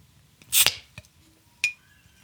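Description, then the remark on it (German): A bottle pried open with a lighter: a sharp, hissing pop, then a small click and a bright metallic clink that rings briefly before fading into quiet. “Ein Feuerzeug aufmachen macht noch mal ein bisschen, hast du gehört?”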